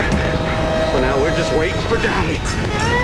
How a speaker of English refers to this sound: Between a full moon and white clouds, the plane banks wildly.